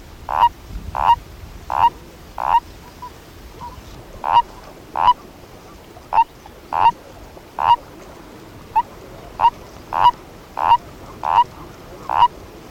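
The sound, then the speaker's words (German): Frogs croak in a steady series of short, bright, mid-pitched calls, about sixteen of them, spaced roughly evenly with a couple of brief pauses, over a quiet low background and no talking. “Amphibien, auf Deutsch Lurche, das sind im Prinzip Kriechtiere, die sowohl im Wasser als auch an Land leben.”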